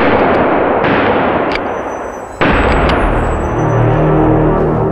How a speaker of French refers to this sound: Le second bandit tire dans leur direction.